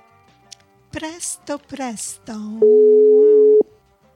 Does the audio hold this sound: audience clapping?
no